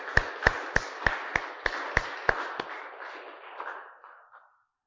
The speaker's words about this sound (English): Clap your hands, all you nations, shout to God with cries of joy.